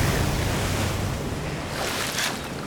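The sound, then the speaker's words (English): Ocean waves break and wash in a steady, broad roar during a morning surf, with a brighter surge of surf near the end and some wind buffeting underneath. No voices. “There's no better way to start my day than grabbing my board, chucking on my wedding, and jumping in the ocean for a morning surf.”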